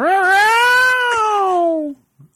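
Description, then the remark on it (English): A single long, drawn-out house cat meow, rising slightly then sliding slowly downward over about two seconds, loud, followed by a brief faint sound. “Is that pro or con? House cat, I don't understand.”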